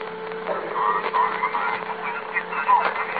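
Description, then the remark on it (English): A steady electrical hum drones on open telephone lines played through a patched-in loudspeaker, thin and band-limited, with a faint, shifting murmur like crosstalk of many indistinct voices underneath. “I've patched this loudspeaker onto the open lines. We're going to start it. When we hear what we're listening for, we'll tell the company.”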